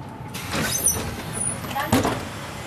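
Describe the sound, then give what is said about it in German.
A bus idles at a rural stop in Egenhofen, about an hour from Munich, Germany, just after a passenger has stepped off, with a steady engine rumble, a brief hiss of air and a mechanical clunk near the end, like doors or brakes releasing. “Also ich bin jetzt gerade hier aus dem Bus ausgestiegen und es fühlt sich echt so ein bisschen an wie Urlaub auf dem Land.”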